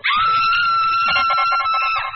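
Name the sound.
woman's scream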